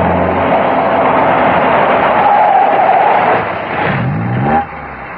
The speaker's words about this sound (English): and with a howl of tortured brakes, squad car 17 screeches to a halt outside a dingy little general store at the Chinatown end of Commissioner Street.